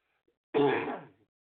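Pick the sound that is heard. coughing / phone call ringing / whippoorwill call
coughing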